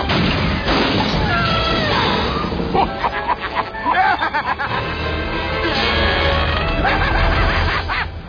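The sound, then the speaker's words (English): A limo crashes into a Yahoo billboard: a loud, sustained smash of crunching metal and clattering debris that fills most of the eight seconds, with rough bursts and rumbling underneath. “Driver of the wrecked limo attached to the Yahoo billboard.”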